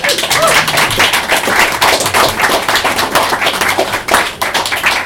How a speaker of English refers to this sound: With the moths and the light bulbs in mind, as we all have souls and sounds, we can all clap equally.